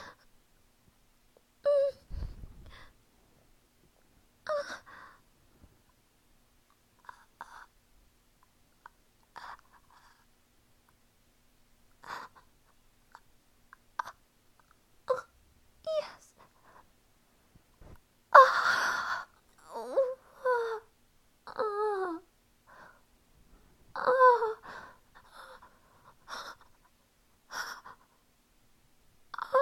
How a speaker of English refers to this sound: Breathing heavy and quivering.